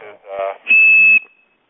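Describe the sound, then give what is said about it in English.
A steady, high tone is whistled on a telephone line to whistle off a call to a message board. It holds loud for about half a second, then trails off faintly. Brief muffled voice-like sounds come before it. “There's a bunch of more messages that I'm going to show here when I whistle this off, since there was answer supervision on the message board, it'll just hang up on us.”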